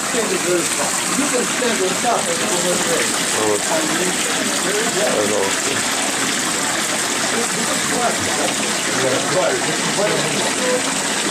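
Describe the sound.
Steady rush of water flowing down a decorative wall fountain from the top, cascading at a garden gazebo, continuous throughout with people talking over it.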